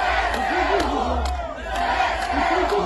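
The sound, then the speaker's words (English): A large crowd of residents cheers and shouts together in the streets of Kherson City, Ukraine, celebrating its liberation, in a steady, dense roar, with voices rising and falling in overlapping chants and occasional sharp whoops cutting through. “Earlier this month, when Ukraine's military liberated Kherson City in southern Ukraine, residents took to the streets in celebration.”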